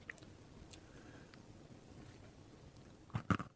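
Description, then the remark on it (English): Chewing on a chocolate bar with crunchy hokey pokey: a few faint mouth clicks over quiet background, then a cluster of louder, crunchy bites near the end. No one speaks. “So I'm going to try this now, and I will decide if it's good or not.”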